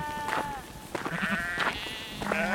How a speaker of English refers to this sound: And a sheep was screaming. I followed the cries toward the island's southern tip, where there's a series of rock shelves and crevasses.